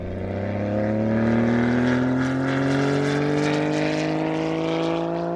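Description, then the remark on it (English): A loud engine roars, its pitch climbing steadily as a speed-record car accelerates away from the start line across the desert, the droning whine holding strong for several seconds with no voices. “And they're all queuing up at the start line to take their turn to hurtle off across the desert.”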